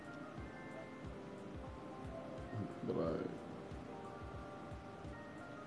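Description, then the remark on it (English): Steady rain falls throughout with a soft, continuous hiss and patter, while a person speaks briefly over it. “What's the rain on?”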